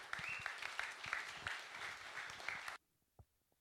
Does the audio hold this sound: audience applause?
yes